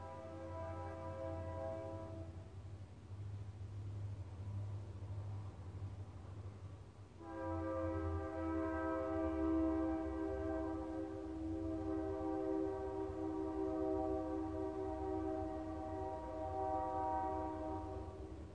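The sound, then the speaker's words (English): A train horn wails in long, sustained chords, first briefly, then after a pause a longer drawn-out blast, all over a steady low rumble of the passing train. No one speaks. “So nice for the train to wail for us a little bit.”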